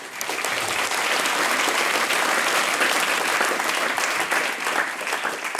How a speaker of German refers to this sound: Die Mama hat das gemacht. Ja, wunderbar. Da geben wir der Mama einen kräftigen Applaus.